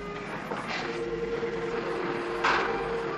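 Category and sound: vehicle, approaching train whistle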